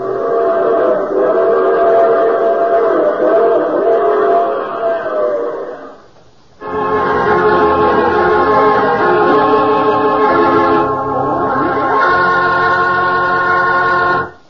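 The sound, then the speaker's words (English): A loud, sustained train whistle blows in long chords, breaks off briefly, then sounds again in a second long blast, with the rumble of the moving train underneath. No one speaks. “I take the same train every week at this time.”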